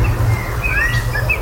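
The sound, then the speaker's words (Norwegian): A common blackbird sings a short phrase of clear, fluting whistles that rise and fall, a phrase resembling a well-known pop song melody, heard over a steady low background rumble, with no talking. “Det ikke alle svarttroster som høres slik ut, men den sangen her synger de mistok ganske ofte.”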